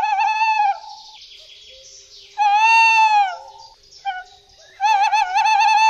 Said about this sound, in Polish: no to właśnie, mówimy o tym, żeby się nie zdziwić, bo rzeczywiście jeszcze o tej porze przy Wigilii możemy usłyszeć na przykład głos terytorialny puszczyka.